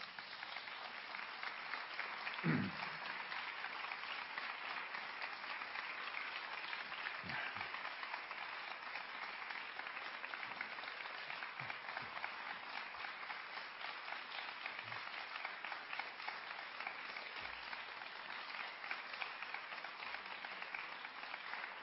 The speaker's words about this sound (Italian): Vi ringrazio. Adesso comincio a contare i minuti dell'applauso, così la mia vanità viene premiata o viene addirittura